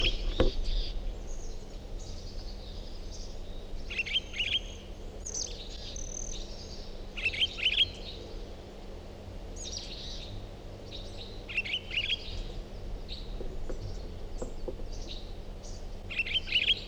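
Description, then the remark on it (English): Bird song: repeated bright, high-pitched chirping phrases coming in bursts every couple of seconds over a steady low background hum, with no voices. “Is that recording same bird?”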